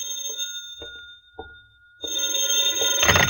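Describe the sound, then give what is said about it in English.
A telephone bell rings in a house in town, first in short metallic trills, then breaking into a louder, sustained jangling ring. No one speaks. “2 hours later, you're back in your house in town, where you nervously await the phone call you're certain you'll receive.”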